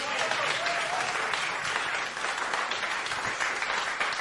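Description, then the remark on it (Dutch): Sustained applause from an audience for a jazz band after the last music of an on-location jazz recording at the Brinkhuis, a dense, steady wash of many hands clapping at once, fairly loud and continuous throughout with no voices standing out. “Nog één keer een applaus voor deze band.”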